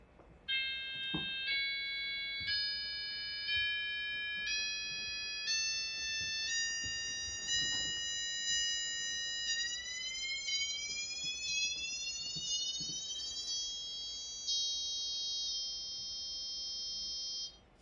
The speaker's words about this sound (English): I'm going to demonstrate in this next slide one of the instruments. And in this example, it's showing that the difference tones and the acoustic tones are decoupled.